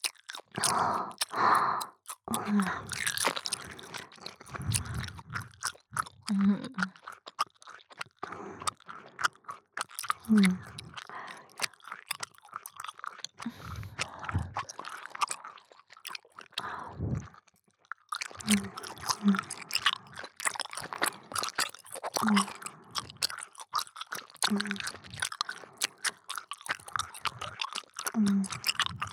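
Close, wet chewing noises go on almost nonstop, with rapid smacking and crunching clicks from the mouth and only a couple of brief pauses.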